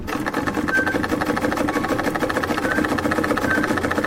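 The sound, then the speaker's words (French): A sewing machine runs steadily as a woman sews an outfit in her tailoring workshop in the rural commune of Dassa, Burkina Faso, its rapid mechanical stitching forming a continuous, even whirring rattle at constant loudness for the whole stretch, with no one speaking. “affairée à la confection d'une tenue dans son atelier de couture”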